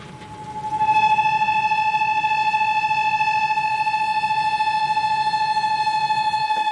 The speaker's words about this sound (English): It sounds a bit like a factory, but that's actually the whistle of a kettle on the stove. But it doesn't mean I'm going to get a cup of tea. There are two kettles here, one for humans and one for kakapo chicks, which that one is